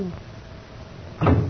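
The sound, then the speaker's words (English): A car door is opened as a passenger with arms tied behind their back is helped out of the car: a single solid clunk and a brief scraping rush near the end, following a stretch of quiet low rumble. “Permit me assist you out of car.”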